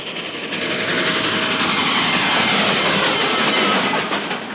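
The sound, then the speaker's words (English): A freight train rolls past on the rails, a loud, steady roar of wheels and cars filling the whole stretch without letup. No voices are heard. “Yes, the familiar freight train is probably your best friend when it comes to helping you enjoy your car on the public highways.”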